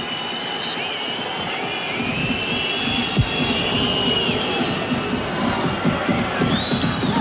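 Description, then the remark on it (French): A large crowd at the Groupama Stadium (Parc OL) during a football match against Le Havre roars and cheers in a dense, continuous wash of noise, steady and loud throughout, with higher shouts and whistles streaking over the rumble and a brief sharp crack around the middle. “Vous entendez les acclamations du Groupama Stadium, du Parc OL ici, et donc Le but à vrai est annulé à son tour d'Urcura.”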